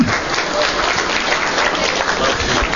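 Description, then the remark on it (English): An audience applauds themselves, clapping steadily, a dense and continuous patter of many hands that stays loud and even for a few seconds, with no voices standing out. “Let's give ourselves a well-rounded applause.”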